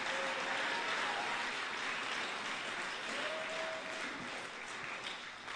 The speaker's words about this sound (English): If you know you're part of that church, clap those hands one more time and give God a mighty shout. Come on, take 30 good seconds and lift him up. Clap your hands, all ye people. Shout unto God.